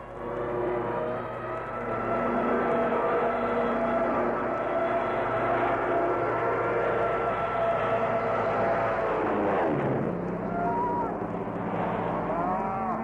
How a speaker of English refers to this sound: Darn if I can hear anything. I'm deafened by those planes.